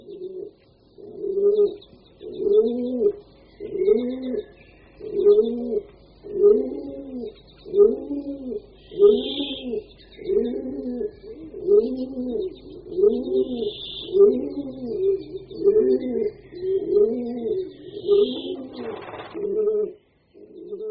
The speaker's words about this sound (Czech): Právě tento holub skalní se přidal k člověku, začal vyhledávat lidská sídla a snad už v 6. nebo v 5. tisíciletí před naším letopočtem byl v přední Asii poprvé vyšlechtěn holub domácí.